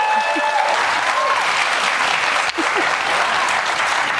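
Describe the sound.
A crowd claps steadily and densely for about four seconds, with a brief dip partway through and faint whoops or voices rising over the applause.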